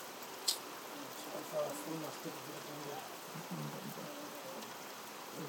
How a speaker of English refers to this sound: Recording the rain, darling. Can you hear the thunder?